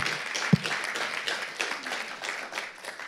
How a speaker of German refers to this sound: Und das ist ein Applaus wert für Gott.